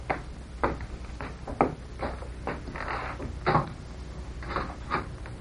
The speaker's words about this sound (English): No, Captain Midnight. We had better go into the next room. I will open the door.